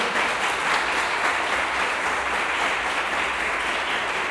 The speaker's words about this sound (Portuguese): Agora aplaudir. aplaudir o Senhor.